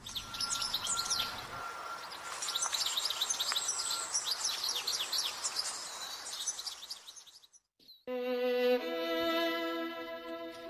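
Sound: european goldfinch song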